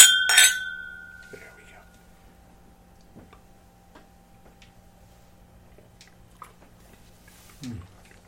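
Glasses clink together once in a bright, sharp toast near the start, the ringing tone fading over about a second, followed by near-quiet with a few faint taps and a brief low murmur.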